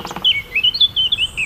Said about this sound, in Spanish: Suena la madera, tamboril león, pica madero negro. Lejos grita otro pica maderos.